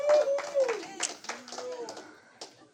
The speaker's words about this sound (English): Hey, clap and shout to the Lord.